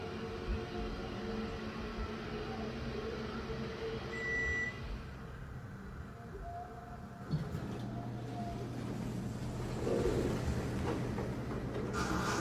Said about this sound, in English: The elevator door keeps opening and closing repeatedly, all on its own. Also, what sounds like a mysterious voice can be faintly heard in the background.